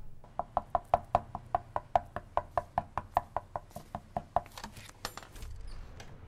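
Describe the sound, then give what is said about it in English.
Rapid, insistent knocking on a door, around twenty sharp raps in a steady, even rhythm lasting about four seconds, fairly loud, followed by a short burst of muffled shuffling. “Someone at the door for you.”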